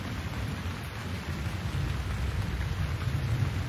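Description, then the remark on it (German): Steady rain hisses, drops falling on the ground, while a low, distant rumble of thunder rolls underneath, swelling slightly toward the end. No voices, just the continuous wash of the storm. “Höre das Grummeln des Gewitters in der Ferne.”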